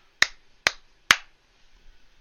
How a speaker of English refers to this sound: Yep, I'm going to clap again so I know where we start talking for real.